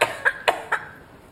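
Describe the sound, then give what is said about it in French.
Four sharp, forceful coughs in quick succession, each a short harsh burst spaced about a quarter second apart, fading into a quiet hiss afterward. “Je tousse très fort.”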